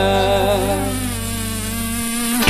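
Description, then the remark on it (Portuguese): A mosquito's high, whining buzz drones steadily and loud, holding a sustained nasal tone for a couple of seconds before breaking off with a brief thump at the end. “Tapa, tapa, tapa no mosquito.”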